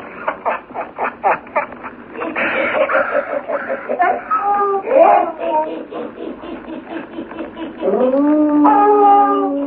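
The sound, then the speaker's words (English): Several frightened dogs howl and whimper together, a chorus of rising, wavering cries with short yelps and whines, ending in a long, loud sustained howl. “See, Buana, even the dogs, they are frightened. Whiskey, leader, shut up.”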